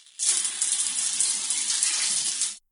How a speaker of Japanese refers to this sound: ああ、ごめん。泡を流そうとしたら君にシャワーかかっちゃった。